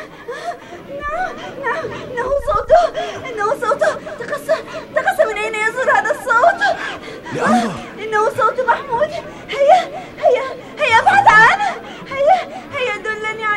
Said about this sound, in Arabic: إن صوت بكاء الأطفال متشابه.